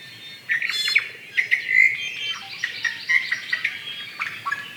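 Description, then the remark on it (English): A Kauai o'o, an extinct native Hawaiian nectar-feeding bird, calls with a run of clear, high whistled notes and sharp chirps, repeated in quick irregular bursts with no voices present. “Kauai o'o fed primarily on nectar of various native flowers, and the causes for their extinction were similar to those for many other native Hawaiian birds, and include habitat destruction and introduced predators and disease.”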